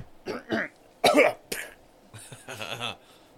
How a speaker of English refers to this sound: I coughed, sorry. Whoops. Like I fell over. Weird cough.